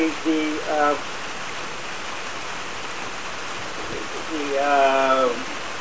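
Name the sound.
heavy rain falling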